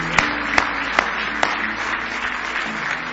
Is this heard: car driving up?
no